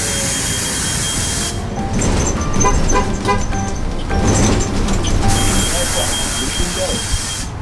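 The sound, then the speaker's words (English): A Muni city bus, the 22 Fillmore, pulls in at 16th and Mission over steady street noise, its engine rumbling while high whining and squealing tones rise and shift for a few seconds in the middle before traffic hum resumes. “And I see a muni bus coming, so I think that's how I'm going to complete my transit adventure today.”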